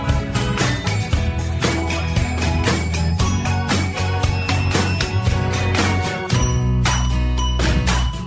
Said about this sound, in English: It's the wake-up bell time.